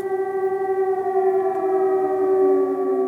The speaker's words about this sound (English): A handful of aid workers hunker down as the air raid siren sounds